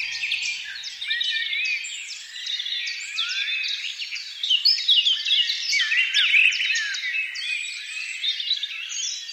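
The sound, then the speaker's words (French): A dense chorus of birdsong, with many overlapping high chirps, trills and whistles that carry on without pause and swell slightly louder midway through. No voices are heard. “Les oiseaux.”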